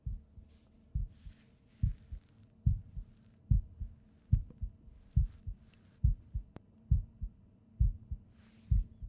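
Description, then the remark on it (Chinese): A quick, steady heartbeat thumps, muffled, each beat a deep lub-dub pair repeating in an even rhythm with no voices over it. “真什么都没想的话啊，你心跳那么快？扑通扑通，是你的心吧？”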